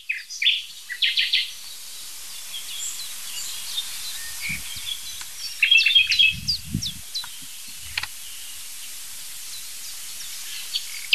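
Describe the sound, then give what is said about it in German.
Bursts of nightingale song, rapid chirps and whistled notes, arrive in short phrases separated by pauses, set against a soft outdoor hiss with a few low thumps. “Nachtigall.”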